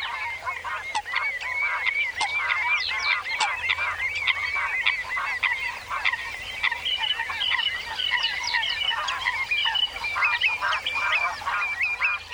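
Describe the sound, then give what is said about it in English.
A dense chorus of coots and lapwings calling at a wetland in Europe, with many overlapping honks, squawks and chirps sounding steadily and fairly loud throughout, with no one speaking. “coots, and lapwings are just a few of the fine-feathered friends who sing-wing and strut their stuff at this wetland”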